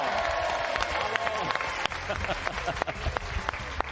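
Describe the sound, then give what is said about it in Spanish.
A crowd applauds steadily, dense clapping with scattered sharper claps and some cheering voices mixed in, sustained at a fairly even loudness throughout. “¡Un aplauso!”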